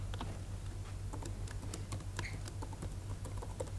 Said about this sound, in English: And then so you don't have to see me typing all this, I pre-cooked an interface that we'll just copy in.